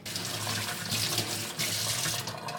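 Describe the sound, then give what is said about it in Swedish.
A knife is rinsed under a running tap: a steady, full rush of water with small splashy shifts in tone as it hits the blade and sink, with no voices. “Diskades kniven av.”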